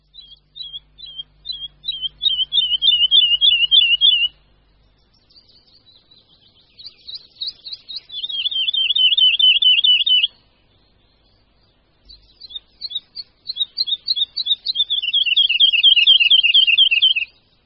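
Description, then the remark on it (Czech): A lark, singing while flying high in the sky, gives a long, rapid, high-pitched trilling song in three sustained bursts with brief pauses between them. The fast, warbling notes are loud and unaccompanied by any voices. “Jednou jsme mu na Šumavě naměřili plných 45 minut nepřetržitého zpěvu ve vzduchu.”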